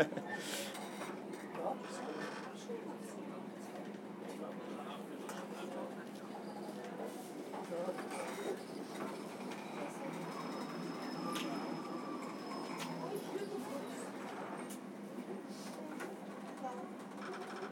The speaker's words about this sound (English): Yes. I think he thinks that's enough train travel for now.